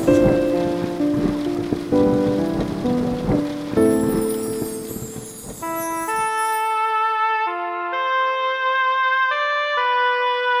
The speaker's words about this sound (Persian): مرا مستم کن ای مهر و لطافت، مرا خیس از همین پاکیزگی کن، که با این بارش و آهنگ باران من و این روح سرکش همچو یک اسب برقصم ها برقصیم ما من و عشق.